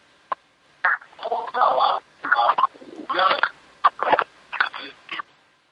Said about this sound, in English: I don't think he knows he didn't hang up the phone machine. Hey, the phone machine's working.